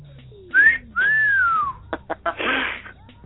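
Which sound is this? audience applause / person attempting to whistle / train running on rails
person attempting to whistle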